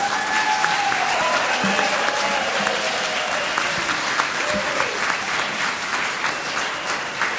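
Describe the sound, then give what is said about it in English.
Sustained applause from an audience at Southminster, following the Foundation's first presidential debate with Mr. Trump, Mr. Sanders and Mrs. Clinton during a service. A dense, steady wash of many hands clapping holds at a fairly even loudness for several seconds, with faint voices and a few cheers mixed in. “Let's give them a big hand of applause.”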